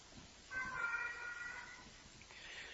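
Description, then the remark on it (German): A pet cat lets out a single drawn-out meow, clear, over a quiet background hiss with no one talking. “Unsere Katze.”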